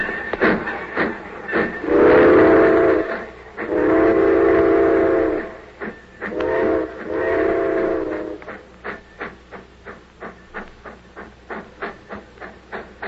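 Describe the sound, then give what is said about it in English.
A steam train sounds three long whistle blasts, then its chuffing starts up in a steady rhythm that quickens as it pulls away. It is fairly loud, with no voices. “That train went.”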